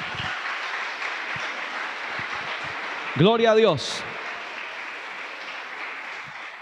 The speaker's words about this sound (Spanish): ¿Cuántos somos iglesia de Jesucristo? Le damos un aplauso a Dios, por favor.